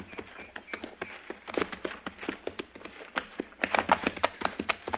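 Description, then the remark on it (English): Horse hooves clip-clop steadily at a brisk, uneven pace, sharp knocks repeating with no voices, as riders move along to track a man's trail. “You ride to one side, and I'll follow his trail.”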